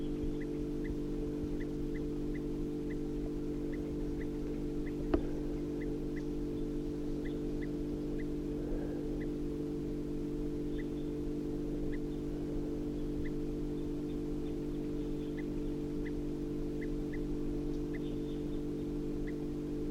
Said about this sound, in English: Recording at 7:52 a.m. and I'm away from the road about 50 yards, right next to the truck. And there's a crossbill perched up in the medium-sized ponderosa pine here, giving alarm calls.